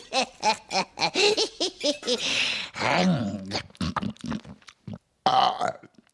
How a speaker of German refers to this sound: Da haben wir ja gerade gehört, das Rülpsen gehört halt einfach dazu.